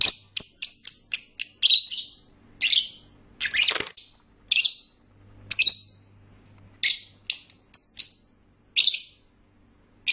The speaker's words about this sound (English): Oh, wait, actually, I've been told that I am not allowed to use the Angry Birds theme music either, so I guess what we'll just do is give you a recording of birds singing.